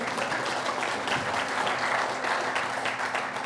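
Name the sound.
audience clapping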